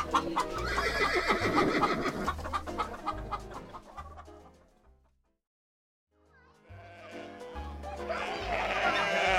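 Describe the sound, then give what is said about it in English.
A busy burst of farmyard animal noises from a farm next to a school, with horses whinnying and hens clucking, fades to a brief silence before a second loud stretch of barnyard calls starts up. “There's a farm next to the school.”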